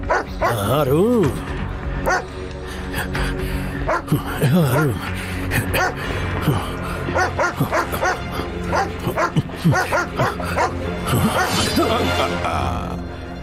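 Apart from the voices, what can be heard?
dog barking and whimpering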